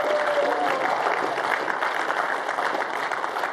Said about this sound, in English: How about one more big round of applause for everybody that got baptized?